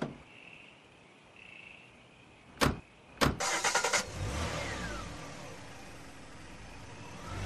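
car driving off

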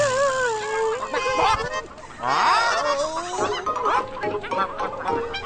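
chickens clucking and squawking

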